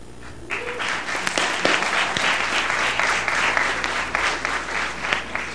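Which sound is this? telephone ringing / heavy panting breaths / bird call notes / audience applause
audience applause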